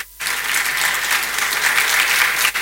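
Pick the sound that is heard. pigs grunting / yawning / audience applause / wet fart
audience applause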